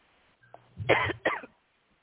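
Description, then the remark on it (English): Two fairly loud coughs in quick succession, the first longer and rougher than the second, with no talking around them. “I see you coughing.”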